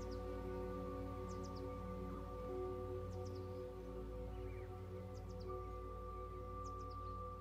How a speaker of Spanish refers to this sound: En las copas de los árboles, los pájaros vuelan de rama en rama y te regalan su canto.